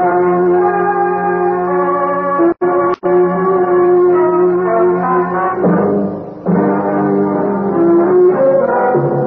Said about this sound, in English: The temple bells tolled ominously as I walked inside, not knowing what to expect.